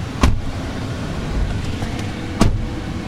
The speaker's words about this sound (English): Climb into his pickup truck for a tour of the old neighborhood.